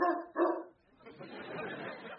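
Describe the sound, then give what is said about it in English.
A dog barks twice in quick succession, loud, inside a house, followed by a rustling, noisy background that continues to the end. “is there a dog in my house?”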